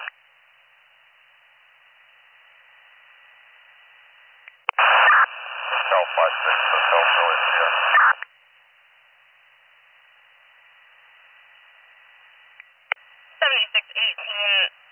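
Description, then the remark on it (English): Police radio static hisses through a narrow, tinny band, broken by a loud burst of garbled, crackling transmission in the middle and short choppy bursts near the end. “Is all static.”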